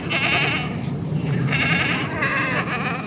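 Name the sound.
goats bleating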